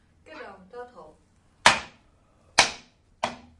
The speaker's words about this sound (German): Nur auf den Fußboden und auf die Werkbank hauen. Genau, so kannst du richtig hämmern.